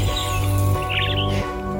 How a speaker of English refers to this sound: That's Doc, our bird, in the background for this episode.